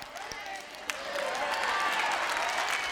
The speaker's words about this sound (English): If I preach like you clap, you wouldn't come hear me.